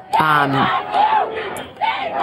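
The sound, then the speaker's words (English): A large crowd of hundreds of protesters chants "Shame on you" in unison, loud voices rising in repeated bursts with a strong pitched shout leading the first phrase, then two more swells of chanting. “There are hundreds of people chanting "Shame on you."”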